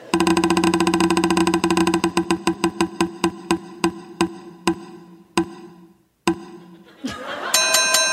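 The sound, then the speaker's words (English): A prize wheel spins with a fast run of ticking clicks that gradually slow and space out until it stops, followed by a bright chiming jingle. “Let's spin it one more time.”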